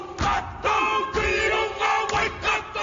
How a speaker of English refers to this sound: Maori people from New Zealand greet a crowd in Anchorage, Alaska with the haka. The tradition is used as a war cry dance or challenge.